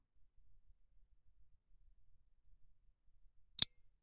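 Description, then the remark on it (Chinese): A small metal lock is locked with a key, snapping shut with a single sharp click near the end, after several seconds of near silence with only a faint low rumble. “好了，钥匙就归我保管了。”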